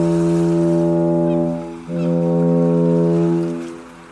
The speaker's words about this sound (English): The foghorn bleated for its final time that Saturnine morning.